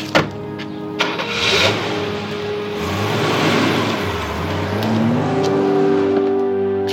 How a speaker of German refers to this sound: Carlos setzte sich in seinen Wagen und fuhr hinter Ramona her.